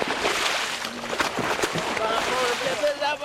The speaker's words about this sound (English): One by one, the men put on their fins and masks and jump into the water.